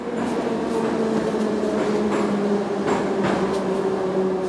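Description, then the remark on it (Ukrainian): A steady, loud underground rumble with a droning electric hum as a metro train runs through Teatralna metro station in Kyiv, which Kyiv mayor Vitali Klitschko is entering, punctuated by several sharp clacks and rattles of wheels over track. “Міський голова Києва Віталій Кличко у супроводі фотографа та відеооператора заходить на станцію метро «Театральна».”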